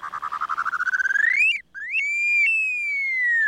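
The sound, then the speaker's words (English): An upland sandpiper sings a single clear whistle: a bubbling trill climbs steadily, breaks briefly, then holds as a long, drawn-out note that slowly slides downward. “Their song is a whistle that rises and falls.”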